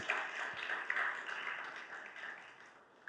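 Sustained applause from a church audience during a VBS announcement, thanking the people who made the event possible: a dense wash of many hands clapping at once, fairly steady in loudness for a few seconds before tapering slightly at the end.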